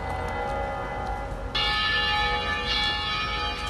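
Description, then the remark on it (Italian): The church bells of San Marco ring continuously with layered, sustained tones, swelling louder and brighter about halfway through as more bells join in, with no voices. “Le campane di San Marco!”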